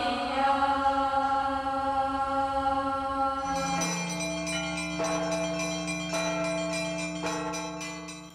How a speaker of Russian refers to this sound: Благовест, вот эта сила, дивный колокол небес, чтоб молитва всех хранила, чистый звон летит окрест.